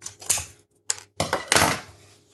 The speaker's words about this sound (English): So just need scissors out the drawer to open these passatas with.